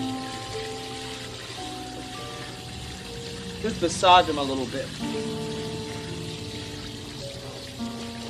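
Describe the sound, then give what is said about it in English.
Water sloshes and splashes in a basin of cool water as a policeman moves his tired feet about, with a brief louder splash midway, while people talk calmly. “Cool water on a hot day.”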